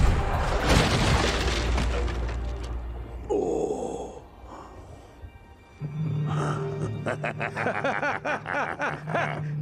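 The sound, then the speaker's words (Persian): A heavy cannon blast, fired on the shouted order to stand clear of the cannons, opens with a deep, rumbling boom that rolls on for a few seconds and fades, followed by a steady low droning tone with a pulsing rhythm. “از توپا فاصله بگیرین و آتش!”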